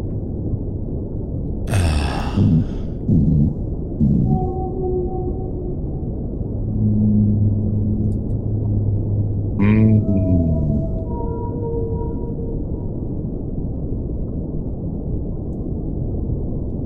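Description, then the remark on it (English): Whale song rises and falls in long, tonal moans and upsweeping calls, with a few sharp bursts, all over a steady low underwater rumble; no talking. “You were trying to harmonize with the whale at one point, and that kind of threw me off.”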